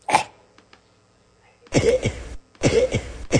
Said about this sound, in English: Okay, this is called cough cycle.